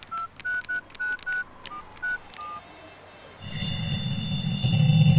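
A series of about nine short, evenly paced touch-tone beeps as a phone number is keyed in to call a mother back, followed by a low, steady droning buzz with a high whine that grows louder as the call fails to get through.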